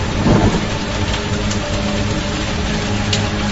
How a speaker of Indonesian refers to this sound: Kulihat jam menunjukkan jam 10 malam. Rintik hujan masih membasahi jalanan Bandung, mengantarkanku ke rumah sakit.